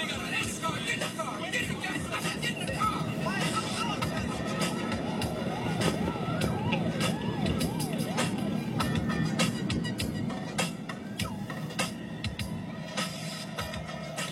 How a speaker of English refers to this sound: Ah, two garbage trucks stopped in the alley. Great. This is gonna go good.